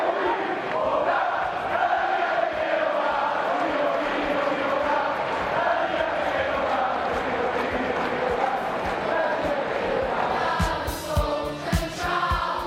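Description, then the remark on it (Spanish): The large crowd at the Wanda Metropolitano stadium gives a standing ovation to Slovenian goalkeeper Oblak after a save: a loud, unbroken roar of cheering voices and chanting, with sharper bursts of applause breaking through near the end. “El Wanda Metropolitano en pie, aplaudiendo al portero esloveno.”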